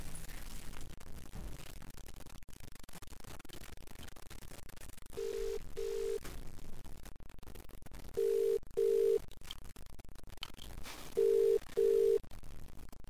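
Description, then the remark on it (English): A telephone ringback tone sounds three times as a call is placed to a friend, each a quick double burst with pauses between, over a steady low background hiss. Nobody speaks. “Is it ringing?”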